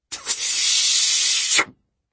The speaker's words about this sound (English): Like a balloon with a leak. I looked down where I'd thrown the shell. A tiny spout of water was shooting out of the muck.